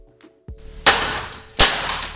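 Objects being smashed at a rage room offering destruction therapy in the centre of Maribor, Slovenia, in a few sharp, loud crashes: a dull knock, then two heavy impacts about a second apart, each bursting into a harsh, ringing clatter that slowly fades. No one speaks.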